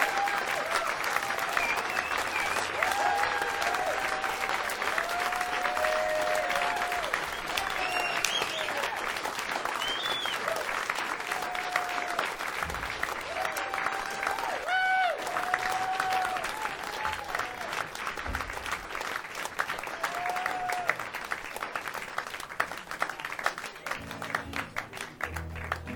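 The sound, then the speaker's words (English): A large audience claps steadily and loudly for about twenty-five seconds for a musician, a dense, continuous wash of applause with scattered whistles and cheers rising above it. “Folks, big round of applause for Mr. ….”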